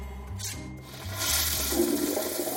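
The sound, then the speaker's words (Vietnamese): An elderly man, helped from a wheelchair onto the toilet, flushes it: a rushing, gurgling surge of water that swells and grows louder midway, steady low rumbling underneath, with no voices. “Rồi ông xả nước và đi đại tiện.”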